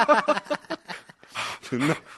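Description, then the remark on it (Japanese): A voice imitates heavy, labored panting: a quick run of breathy, voiced huffs, then two longer, rasping exhales. “息遣いはもう絶対おかしい。”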